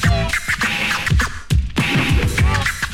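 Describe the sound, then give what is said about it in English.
A DJ scratches a vinyl record, producing fast, loud back-and-forth sweeps of pitch in choppy bursts, with rapid rhythmic cuts and warbling swooshes over a steady beat. “Make the record burn.”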